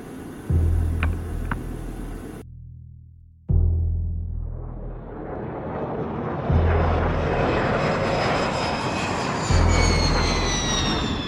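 Loud engines of a two-seat F-4 fighter-bomber idle on the ground before takeoff, awaiting control tower clearance, with a steady roar, briefly cut out, then return with a rising high-pitched whine as they spool up. No voices.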